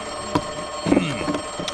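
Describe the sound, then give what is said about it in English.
A telephone rings with a bright, jangling tone over a faint steady hum, broken by a few short clattering knocks, in the evening as Grandpa Anoli tinkers with his jalopy. Moderately loud, with no voices. “Later that evening, Grandpa Anoli was tinkering away at his jalopy when the phone rang.”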